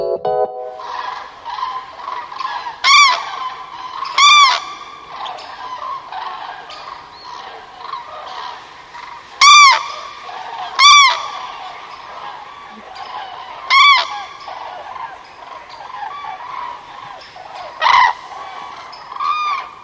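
A dense chorus of bird calls fills the whole stretch, with about six louder, nasal honking cries rising above it at irregular intervals. No one speaks.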